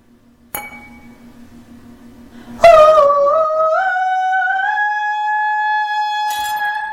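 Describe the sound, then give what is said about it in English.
The side of a good-quality wine glass is struck with a sharp tap and rings with a clear, lingering tone, then a louder, sustained ring swells and wavers slightly before another light tap near the end. “If you tap the side of a good quality wine glass, you'll hear it ring with a clear tone, and that depends on the size and thickness of the glass.”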